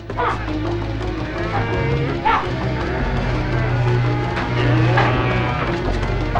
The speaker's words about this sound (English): He barges through the confused cows and removes a barrier, freeing them from their stalls.